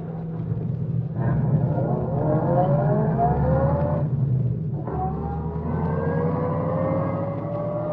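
A car engine revs and accelerates hard on a highway, setting off in pursuit of another car, rising in pitch over a steady low rumble, pauses briefly, then surges again, loud throughout.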